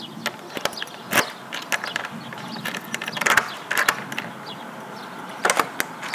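household object, key turning

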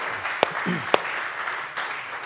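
crowd, audience applause

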